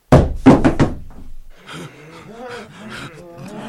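Fists hammer a door four times in quick, heavy succession, loud, then several voices start talking over one another after a short pause; people demand that Lot open the door or they will break it down.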